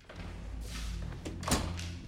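door being closed

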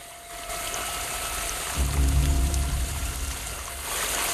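fast-flowing stream water

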